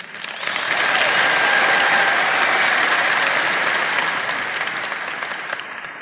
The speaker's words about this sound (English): I appreciate the applause that every speaker does, but we're behind time.